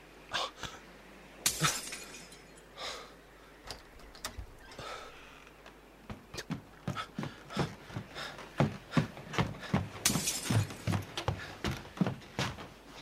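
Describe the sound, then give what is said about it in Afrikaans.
A drinking glass shatters with a sharp crash, followed by a long string of bright clinks and tinkles as shards scatter and settle. No voices are heard. “Dis net 'n donisse glas.”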